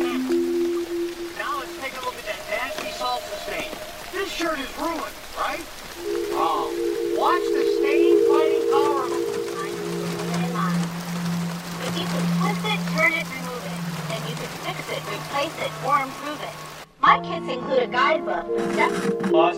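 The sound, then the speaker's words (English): Steady rain patters on a surface throughout on a dark night, mixed with muffled voices and snatches of music from a TV that shift and change as a young woman changes channels, ending in an abrupt cut to a different, sharper sound. “On a dark and rainy night, a young woman sits slumped in front of a TV, idly changing channels.”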